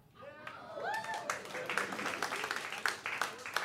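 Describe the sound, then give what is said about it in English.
Lukewarm audience applause on the show Love It or Leave It: a scattered patter of claps at moderate volume, with a few voices cheering or calling out briefly near the start. “I see why the applause was tepid.”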